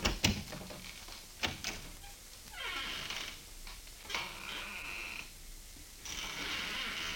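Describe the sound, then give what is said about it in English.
An office door is shut and then opened again: a couple of sharp knocks and thuds, followed by drawn-out creaks and a squeaky scrape from the handle and hinges, with no voices. “I'll step outside the office and close the door and then open it again.”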